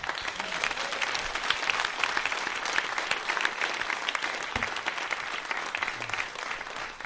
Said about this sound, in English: First of all, let's have a quick round of applause for everybody.